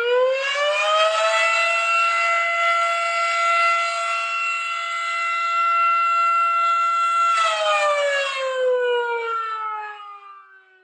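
The Milton Volunteer Fire Department's civil defense siren at the firehouse winds up, holds a loud steady wail for several seconds, then winds down and fades out, heard alone with no voices.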